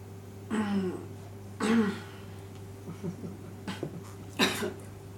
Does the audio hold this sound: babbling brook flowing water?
no